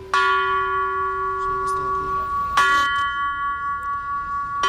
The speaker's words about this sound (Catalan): Així sonen els tres primers prototips de les campanes que va començar a dissenyar Gaudí per col·locar-les a la Sagrada Família. Se sentiran aquest vespre a la plaça Catalunya en el concert 84 campanes